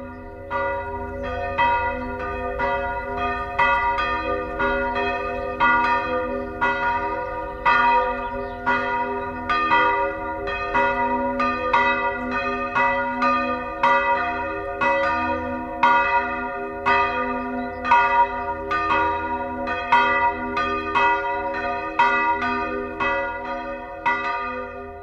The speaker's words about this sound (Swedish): programmet inleds med kyrkklockan i Näsby kyrka.